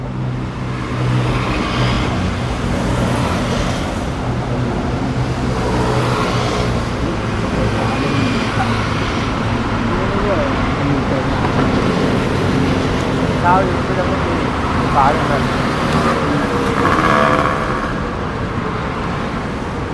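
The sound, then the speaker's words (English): A steady wash of busy street-corner traffic with buses and motorcycles: deep engine rumble, passing vehicles and occasional revving, continuous and fairly loud, with indistinct voices murmuring in the background. “Their ears bear the deep rumbling of bus wheels on concrete, as well as the ear-splitting squeak of air brakes, not to mention the choppy voices of their own engines.”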